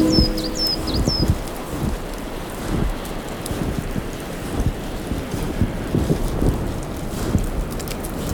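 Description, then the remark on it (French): Strong wind gusts buffet the microphone outdoors, a steady roaring rush with rumbling bursts, while a few high bird chirps sound briefly at the start. “Le vent est en train de chasser les nuages.”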